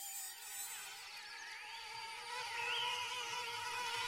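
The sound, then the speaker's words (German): A steady, high-pitched whine of many mosquitoes buzzing in the air over a forest, with thin wavering tones gliding up and down over a constant drone. No voices. “und in den Lüften schwirrten Mücken, 2 Milliarden Mücken, die nicht wussten, wen sie stechen sollten.”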